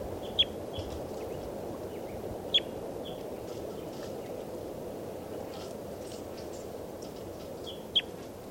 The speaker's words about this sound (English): Recording on test recording, bird 393.